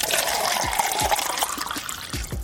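Water runs from a tap in a steady stream, splashing and gurgling as it fills a glass, with small bubbly plops throughout; moderately loud, no voices. The tap water is not fit for drinking.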